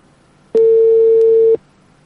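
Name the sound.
telephone call ringing tone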